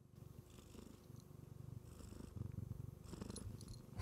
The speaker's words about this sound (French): Elle ronronne. Mets-le dans le micro.